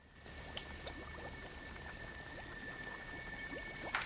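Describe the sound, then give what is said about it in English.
Liquid is sprayed from a plastic spray bottle into a glass bowl half full of clear liquid inside a ventilation duct, hissing with a couple of brief spritzes, then a steady, soft fizzing with many tiny bubbling pops crackling throughout. Quiet, with no voices. “He sprays liquid into the bowl, the contents of which begin to fizz and bubble.”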